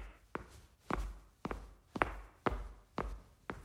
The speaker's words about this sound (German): Josef läuft neben ihr, Schritt für Schritt.